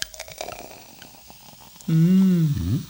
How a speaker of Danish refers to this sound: Bobler. Ja, ja. Det ser dyrt ud.